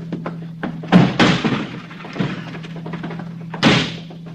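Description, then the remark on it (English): A locked door is kicked in: heavy, forceful blows land, two in quick succession and then a final loud crash, with a steady low hum underneath and no talking. “It's locked. I don't have a key. All right, I'll kick it in.”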